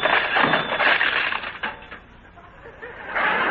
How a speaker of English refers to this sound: I'll fix that right now. I'll rip out the phone by the roots. By the roots.